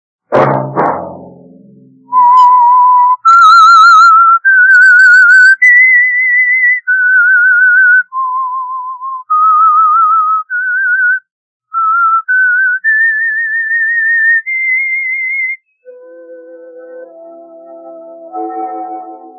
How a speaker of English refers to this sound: That whistle be your signal for the Signal Oil program, The Whistler, each Monday at 9.